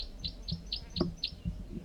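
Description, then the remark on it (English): A wild bird gives a quick, evenly spaced run of about six short, high-pitched call notes, with soft low thumps and rumble underneath and no voices. “Bird form, three gives calls.”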